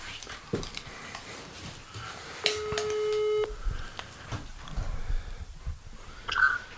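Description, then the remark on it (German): A phone's ringing tone over speakerphone as a call is placed to Joko: one steady, buzzy electronic tone lasting about a second, rising clearly above a low bed of rustling and clicking background noise. “Lass ihn anrufen, ich hatte nämlich was Kleines vorbereitet. Warte, ich mache ihn mal direkt auf laut.”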